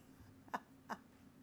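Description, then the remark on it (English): Two short, soft coughs in quick succession, about a third of a second apart, against a quiet background with no talking. “is that you doing all that coughing?”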